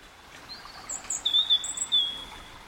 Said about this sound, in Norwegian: akkurat som hele den dalen, den så frodig, og masse fuglekvitter, og jeg har en opptak her, hvor vi kan høre at jeg prater litt inni denne her, et av nedlagte spa, blir det kalt da, egentlig. La oss høre på det. Det nesten som å være i denne skogen.